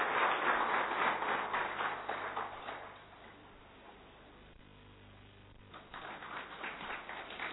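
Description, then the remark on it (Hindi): A crowd at an SSW programme breaks into dense, steady applause to welcome a singing group. The applause dies away after a few seconds, leaving a quiet lull before clapping swells up again toward the end. No one speaks. “तो पुनः जोरदार तालियों के साथ इस ग्रुप का स्वागत करते हैं।”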